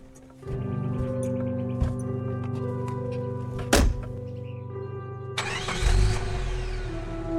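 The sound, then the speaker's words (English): A truck engine cranks and catches, then idles steadily with a low rumble. A thunk sounds midway, and the engine revs up loudly as the truck pulls away and drives off over a hill. “waved as the truck took off and disappeared over the hill.”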